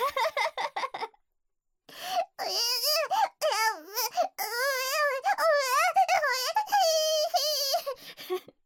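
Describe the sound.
A voice actor imitates a baby for an audio work: a quick burst of giggly bursts, a short pause, then loud, high, wavering baby-like wails and babbling that rise and fall in pitch for several seconds.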